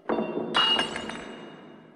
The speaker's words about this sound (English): eating his little dinner and he knocks over the wine glass, like, there's a bazillion online theories about, is it about the shattering of a man-made object?